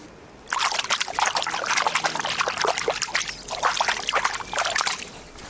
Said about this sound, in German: So klingt der Krähenteich und ich weiß auch, was er gerade gesagt hat.